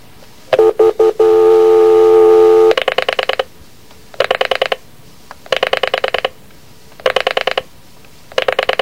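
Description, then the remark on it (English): A telephone being dialed to reach a man on his car phone: a few quick beeps, then a steady electronic tone, followed by repeated bursts of rapid tonal pulses, clear, with no one talking. “I can talk to him on the phone now. What time? Let's see. If I can catch him in his car phone, I'll try.”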